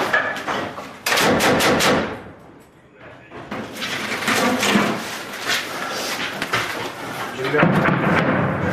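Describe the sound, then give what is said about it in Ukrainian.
Loud bursts of gunfire and heavy blasts rumble and crack in quick succession during a battle in Bakhmut, Ukraine, with street fighting between Ukrainian and Russian forces, then a continuous roar of battle noise with rapid shots and booming explosions, with voices faintly underneath. “Зараз перебуваю в Бахмуті. Тут зав'язався бій.”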